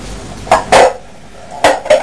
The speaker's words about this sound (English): Where's the pan? There's the pan. That next to your kettle. Oh. That's the pan.